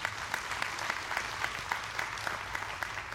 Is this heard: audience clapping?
yes